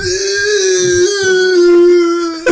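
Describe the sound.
A person voicing a role-play game character lets out a long, loud imitation of a pained scream, one steady high-pitched wail held for over two seconds before cutting off abruptly.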